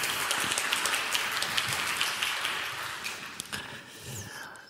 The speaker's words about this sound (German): Und die anderen dürfen ruhig klatschen.